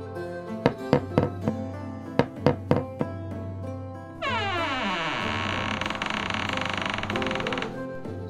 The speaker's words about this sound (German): Sie sahen noch Licht, also klopften sie an.